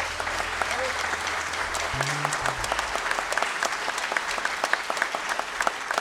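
A crowd applauds steadily, a dense patter of many hands clapping at once, with a brief low rumble underneath partway through.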